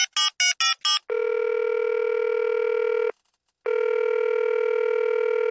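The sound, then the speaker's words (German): A quick burst of four short dialing beeps as a telephone call is put through, followed by a steady electronic ringing tone that holds for two seconds, pauses briefly, then sounds again. Clear, with no talking. “jetzt rufen wir den Lettner Franz an. Da stelle ich mal durch.”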